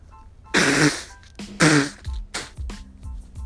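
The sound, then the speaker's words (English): Someone with allergies blows their nose in two loud, honking bursts, followed by several shorter snuffly blows and sniffs. There is no talking. “Excuse me, I'm gonna blow my nose.”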